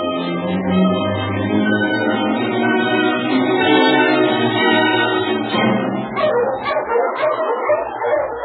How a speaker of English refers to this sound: A week after Preston and the Padre left Dolphin City, the Mountie halted his dogs on the trail. Okay, now you huskies.